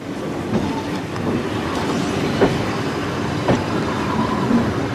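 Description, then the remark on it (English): A train car on a Russian line running to and from Moscow rumbles steadily along the rails, a continuous low roar broken by occasional sharp clacks from the wheels passing over track joints, with no voices. “Galina will ride the train all the way to the end of the line, then return to Moscow in the morning.”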